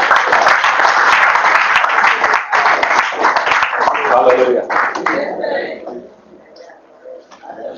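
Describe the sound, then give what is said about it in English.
A crowd claps loudly and steadily for Jesus, a dense roar of applause mixed with shouting voices, then it thins out and fades to scattered claps and quieter murmuring. “Let's give Jesus a bigger clap.”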